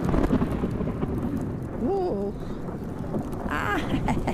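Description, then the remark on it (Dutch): Heavy rain pours down in a steady, dense hiss throughout a stormy downpour while people walk a 400-metre course, with a couple of short, wavering vocal exclamations rising briefly above the noise. “Voor wie er niet bij was, dat waren dus de weersomstandigheden waarin deze 400 meter is afgelegd.”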